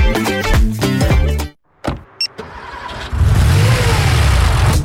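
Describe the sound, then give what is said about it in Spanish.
A burst of music cuts off, then a brief click and whir like a car engine cranking before it catches, followed by a steady, loud engine rumble as the car pulls away. “Preparas la mochila, pones tu playlist favorita y partes a ese lugar que tanto te gusta. Todo va perfecto, porque tu auto está protegido.”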